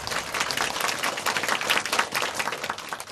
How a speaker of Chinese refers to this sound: 好吧，我们也把掌声归给这位坐宝座的主，荣耀归给他。